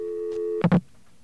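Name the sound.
telephone busy signal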